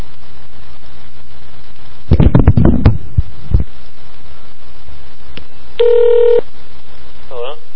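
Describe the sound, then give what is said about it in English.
A quick run of phone keypad tones as a phone number is dialed to call someone, followed a few seconds later by a single longer, steady electronic tone, all clear. “I'm going to try and call him right now.”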